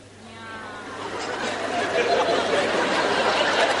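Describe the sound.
A crowd of voices imitates meowing cats all at once, a dense, overlapping chorus of mews that grows louder and fuller, with some chatter and laughter mixed in.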